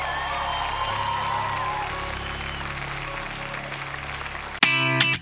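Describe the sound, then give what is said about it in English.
A church audience claps and cheers in steady, dense applause as a praise offering to Jesus for several seconds, then it cuts off abruptly into a brief, loud sustained musical chord at the end. “Come on, don't give him a golf clap.”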